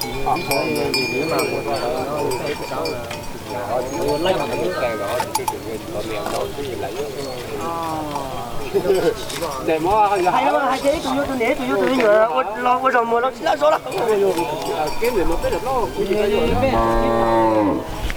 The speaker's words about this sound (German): Große Aufregung, jemand hat gerade eine Kuh gekauft. Andere große Attraktion, ein Büffel ist abgehauen und muss eingefangen werden. Wir sind im Lebendtierbereich des Marktes. Also sprich, es werden Kühe angeboten, Schweine,